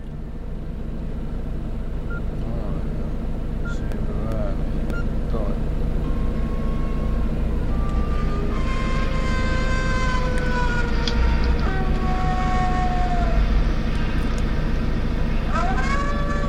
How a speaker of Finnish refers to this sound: Mutta ennen lähtöämme Hurme soittaa minulle autossa äänitteen, jota hän tulee metsässä ulvottamaan myös susille.